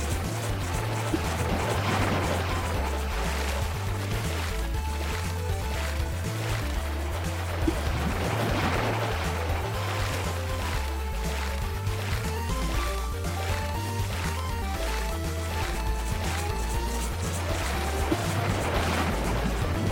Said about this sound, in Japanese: ロボットは水面の下にいるから普通は大丈夫なんだけど、かといって水の上にずっと居続けると波がザーってくるんだって。